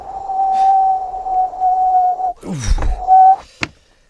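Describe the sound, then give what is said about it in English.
Wind whistles through an open window on a very cold day in a steady, piercing tone for a couple of seconds, then a rushing, rumbling gust breaks in, the whistle briefly returns, and a sharp knock ends it. “Oh, yes, I can hear the wind. Let's shut that window.”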